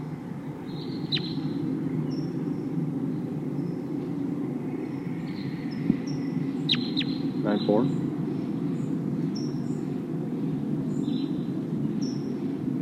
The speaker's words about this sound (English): There's a wild bird here. Sounds like a V-shaped flight call.